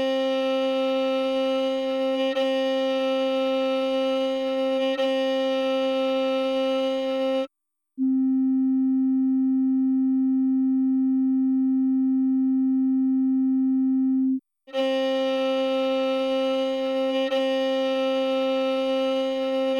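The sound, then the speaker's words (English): A steady, pure sine tone around middle C holds for several seconds, sandwiched between two stretches of a bowed violin note at the same pitch that sounds fuller and richer. “Compare this violin tone with a pure sine wave at the same frequency from an oscillator.”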